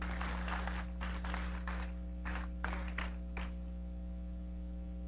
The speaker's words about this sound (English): And this is the final group. This is all the people that were there. Round of applause for all the people that were cold.